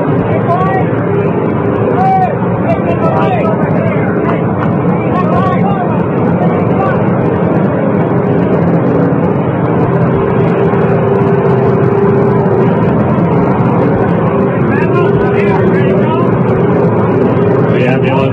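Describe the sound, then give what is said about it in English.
A Navy ambulance carrying a casket drives across an open airport field to the other side, to deliver the casket to waiting helicopters. Its engine rumbles steadily for the whole stretch, a continuous broad roar with faint crowd murmur and mechanical noise mixed in. “The ambulance is going to the other side of this airport.”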